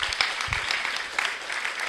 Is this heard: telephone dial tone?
no